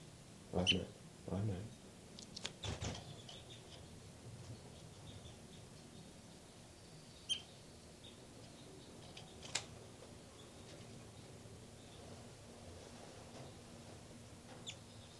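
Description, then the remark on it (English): Faint, high-pitched peeps from baby birds in a nest, coming in a few brief scattered bursts over a quiet background, with a cluster of soft rustling chirps near the start. “Back to the nest. Where the baby birds are calling.”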